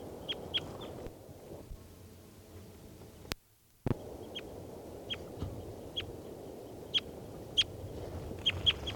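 captive bird calling

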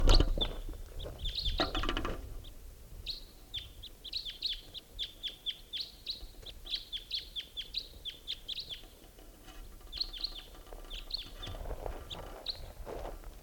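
crossbill calls

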